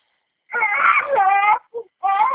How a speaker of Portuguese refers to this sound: Para de gritar